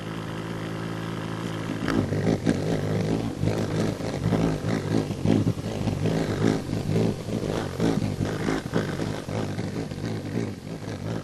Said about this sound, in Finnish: Tämä pörisevä ääni kuuluu horsmakiitäjälle. Se on siis perhonen ja ääni tulee sen siivistä. Lyöntitiheys on melkoinen.